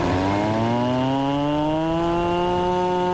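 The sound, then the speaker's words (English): A man imitates a cow's moo with one long, steady, buzzy drone lasting about three seconds, its pitch rising slowly. It has a rough, engine-like quality and no other talking. “says he can do an impressive cow noise.”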